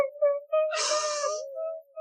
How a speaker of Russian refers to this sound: Не плачь, дитя мое.